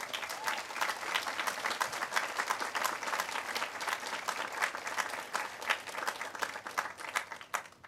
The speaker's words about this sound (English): Please join us in giving a warm round of applause to all of our volunteers.